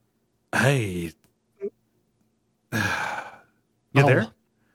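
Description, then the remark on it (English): A big, drawn-out yawn from someone who got up very early, voiced and groaning, breaking into a few long exhaled bursts with wavering pitch, fairly loud with short pauses in between. “I had a big yawn.”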